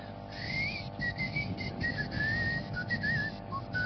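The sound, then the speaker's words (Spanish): A person whistles a thin, high-pitched tone in short wavering bursts, imitating a ringing in the ears, over a low steady rumble of background noise. “Doctor, tengo un silbido en el oído.”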